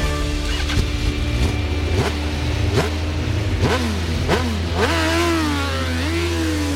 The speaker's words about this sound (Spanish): Las motos.